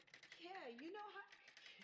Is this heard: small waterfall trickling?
no